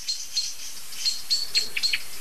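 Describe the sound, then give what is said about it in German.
Sharp, high-pitched bird alarm calls repeat in quick succession, growing more frequent and agitated toward the end, with several birds of more than one species calling and no voices. “Was ziemlich eindeutig zu hören ist, ist, okay, es sind andere Vögel involviert. Die Aufregung ist heftiger, stärker.”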